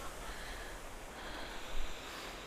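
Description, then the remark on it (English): Soft breathing of a person outdoors near the Ottawa River, against a steady background hiss of outdoor air, with one slightly stronger, snort-like breath near the end. No one speaks. “I can hear your breathing.”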